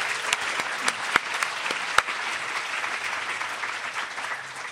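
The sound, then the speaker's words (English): Steady audience applause for an ethics panel, many hands clapping in a dense, even wash with a few sharper claps popping out, sustained for several seconds at moderate loudness. “Let's give them a round of applause just for being here.”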